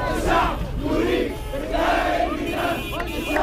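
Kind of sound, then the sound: crowd, protesters chanting slogans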